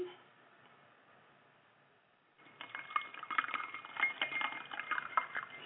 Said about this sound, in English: So this is for the ice in the glass. And this is the crown pouring into the glass.